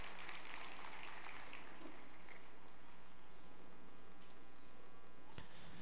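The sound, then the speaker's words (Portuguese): An audience applauds after a prayer led by a pastor, with a dense, steady patter of many hands clapping, fairly soft throughout and with no voices, before fading out near the end. “Em nome de Jesus, a palmas, excelente, muito bom.”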